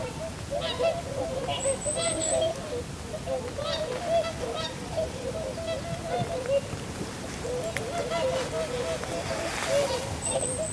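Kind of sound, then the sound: bird, greylag geese honking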